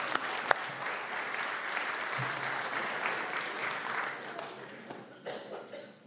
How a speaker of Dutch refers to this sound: Dank jullie wel. Ga maar zitten. Een applaus voor deze kinderen.